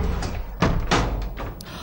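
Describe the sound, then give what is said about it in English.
A door shuts with a couple of heavy, dull thuds in quick succession, over a steady low rumble with some fainter knocks afterward. “Doors closing.”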